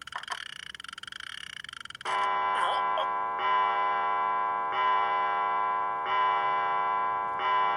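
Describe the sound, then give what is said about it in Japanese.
A clock chimes the hour in steady, evenly spaced ringing strokes, each tone sustaining into the next, after a brief stretch of buzzy noise. A voice is briefly heard near the start of the chiming. “9回から11回時計が鳴るまで、ちょうど今は日記にあった地獄の時間というわけか。”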